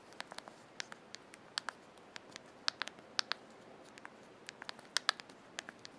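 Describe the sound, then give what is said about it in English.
Rapid, irregular clicking of keys on a noisy computer keyboard with shortcut keys on its right-hand edge, sharp clacks in quick uneven bursts with brief pauses, no voices present. “Very noisy keyboard.”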